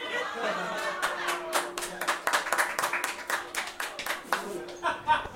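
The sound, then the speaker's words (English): An audience breaks into applause, a steady patter of many hands clapping at moderate volume for several seconds, with faint crowd murmur and a low background hum underneath. “Applause for that.”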